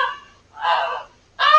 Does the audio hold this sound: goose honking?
yes